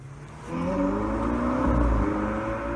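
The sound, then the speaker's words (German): Cars drive past a zebra crossing in Poland without stopping as pedestrians approach, a steady engine roar building after a quiet start and swelling as a vehicle goes by, with low rumbling road noise throughout and no voices. “Ein häufiges Bild an polnischen Zebrastreifen. Autos, die nicht anhalten, obwohl sich Fußgänger nähern.”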